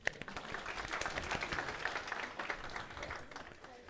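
A crowd applauds steadily for a few seconds, many hands clapping in a dense, even patter at moderate volume with no voices standing out.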